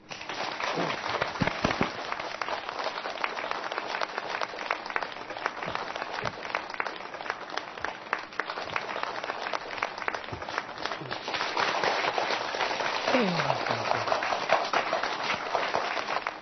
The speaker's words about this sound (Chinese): 好，那接下来就让我们用热烈的掌声来请出